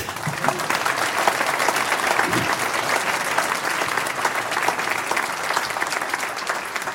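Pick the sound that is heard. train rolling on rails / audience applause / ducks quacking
audience applause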